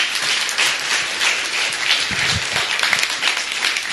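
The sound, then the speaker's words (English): A crowd applauds steadily, a dense wash of many hands clapping at a fairly loud, even level, with a few faint voices mixed in underneath; the audience is applauding its transgender members. “Can we give them an applause, please?”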